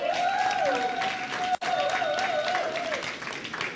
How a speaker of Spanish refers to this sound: Un aplauso para las mujeres.